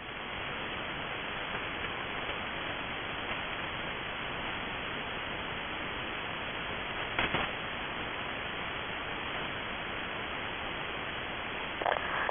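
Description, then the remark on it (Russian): A steady, even hiss of radio static, dull and band-limited rather than bright, runs the whole time with no voices, broken only by two brief crackling clicks, a radio signal received at noise level during a radio communication check. “Принимаю вас на уровне шумов, прием.”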